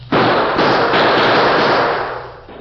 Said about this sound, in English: Faced with an advancing wall of gunfire from the Redford sheriff and a group of excited townsmen, the Lone Ranger put his own guns into action to cover a retreat.